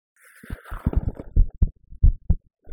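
A muffled human heartbeat of low, soft thumps falling in lub-dub pairs, heard during a hug, preceded by faint rustling and internal body gurgles, with no one speaking.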